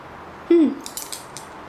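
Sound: keys jingling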